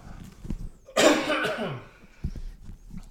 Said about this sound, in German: Ich habe heute meinen Räusperabend. Tut mir leid.